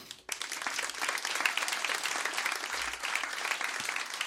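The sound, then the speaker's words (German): A crowd breaks into steady applause, many hands clapping in a dense, even wash that starts abruptly and holds at a fairly constant level throughout, with no voices standing out. “Euer Applaus.”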